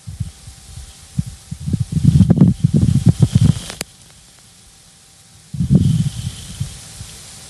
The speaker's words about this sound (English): Okay, there's a rumbling and then there's a little click after the rumbling, and that's the lightning, is it?